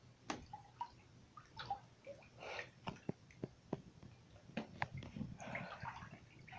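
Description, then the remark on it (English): Water sloshes and splashes as someone turns off the water and steps into a full, hot bubble bath, with irregular drips, gurgles and wet squishing movements over about six seconds, moderately quiet. “I turn off the water and I step into the bath.”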